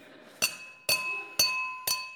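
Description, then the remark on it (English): Four sharp glassy knocks land about half a second apart, each a bright ringing clink that lingers with a sustained tone as something strikes a sturdy pane of glass that holds without breaking. “It's going to shatter, I think.”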